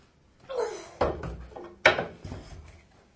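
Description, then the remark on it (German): A toy is set down on a wooden baby chair, with a soft scrape followed by two sharp wooden knocks and a lighter rattle, no talking. “Ah, das kommt jetzt auf den Stuhl, ja? Das ist ein Babystuhl.”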